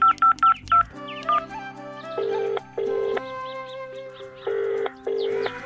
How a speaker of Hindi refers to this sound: मैं प्रीता को फोन लगाती हूँ अंदर का हाल जानने के लिए।